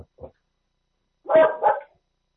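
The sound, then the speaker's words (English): During a board meeting vote, a dog barks twice in quick succession, loud, after a couple of faint, brief sounds at the start, with silence in between. “Well, the dog agrees.”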